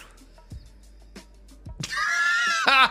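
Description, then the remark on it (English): A horse lets out a loud, shrill whinny that rises and wavers, ending in a sharp squealing burst, preceded by a few soft thumps and faint background noise. “Now, those horses are real.”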